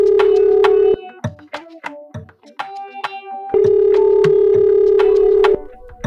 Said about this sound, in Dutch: En ik ga haar nu bellen.